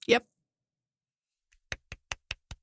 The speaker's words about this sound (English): That was a tiny golf clap because I am quite impressed.